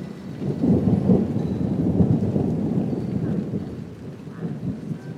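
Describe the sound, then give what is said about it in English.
A deep, rolling rumble of thunder swells and lingers over steady rainfall, sounding like a storm passing outside, with no voices present. “Yeah, I actually predicted that that would arrive just at about the time you arrived. Have you seen the weather radar?”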